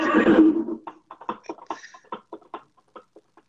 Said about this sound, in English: You may want to ask the horse that's outside. That's a weird horse.